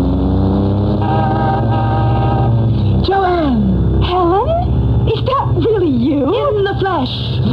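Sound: sports car engine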